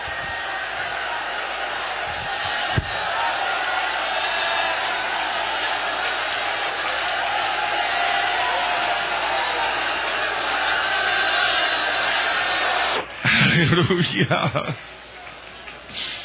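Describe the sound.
An audience worships aloud together, many raised voices blending into a steady, wind-like roar. Near the end the sound briefly surges louder before easing off.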